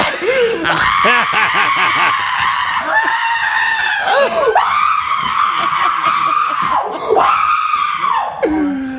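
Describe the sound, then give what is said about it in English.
A man screams in wild excitement, loud, his voice straining in long, high-pitched yells that rise and fall almost without pause for several seconds. “I think I'd feel the same way, but I'm not going to be screaming like that.”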